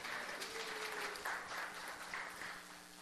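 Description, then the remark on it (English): An audience breaks into a round of applause for the media team, a dense, steady patter of many hands clapping at once that holds fairly loud for a few seconds before easing slightly toward the end. “Give the media people a round of applause.”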